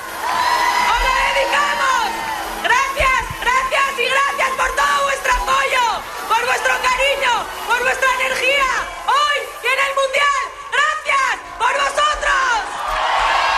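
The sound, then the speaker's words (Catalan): A large crowd in Madrid cheers and applauds loudly and continuously after team captain Ivana Andrés greets them while celebrating a cup and medals, many voices whooping and shouting together in rising and falling waves. “Això el que diu Ivan Andrés, que arrenca els aplaudiments del públic amb aquest missatge, no?, tan sentit, també donant les gràcies a l'afició”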